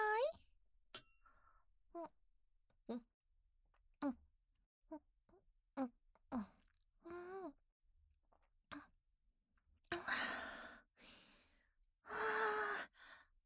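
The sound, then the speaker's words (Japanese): Drinking glasses clink together several times in a toast in a love hotel, mixed with soft breathy sighs and gasps, and two louder exhalations near the end. “ほら、先生もグラスを持って。乾杯。”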